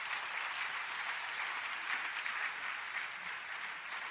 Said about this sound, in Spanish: Un aplauso para esto también.